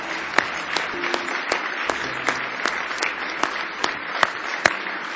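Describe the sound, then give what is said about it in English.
A church audience applauds steadily during a morning service, a dense wash of clapping at moderate volume with sharper individual claps popping out at irregular moments throughout, and no voices. “Give them a nice hand this morning, if you will.”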